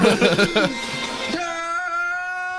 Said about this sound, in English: As I said, I don't have to add autistic screeching. It sounds like me the morning after a night of Taco Bell.